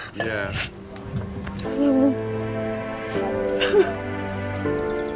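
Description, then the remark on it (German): A woman cries, with shaky, wavering vocal sobs broken by sharp breathy gasps and sniffles, continuing unevenly over several seconds. “Ich muss weinen.”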